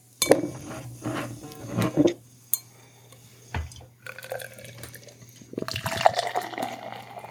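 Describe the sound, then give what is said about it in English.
A sharp metallic crack as a can of beer from Brew Yard Brewing in Eagle Rock, near Los Angeles, is opened, followed by the beer pouring steadily into a glass with a rising, fizzy fill sound as it foams up, plus a few light clinks. “Hopefully I didn't do too hard of a pour because I think I foamed up pretty good there.”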